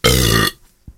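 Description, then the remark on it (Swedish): A single loud burp lasting about half a second, rough and throaty, followed by a faint short sound, with no talking. “Prosit, ja.”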